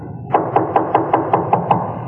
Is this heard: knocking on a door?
yes